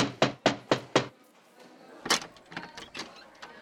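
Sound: knocking on a door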